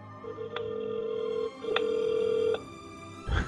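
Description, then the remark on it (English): An outgoing call's ringback tone to Shinto Japanese Steakhouse in Strongsville purrs twice through a phone line, two long steady rings separated by a short gap, followed by a muffled click as someone picks up. “It's ringing.”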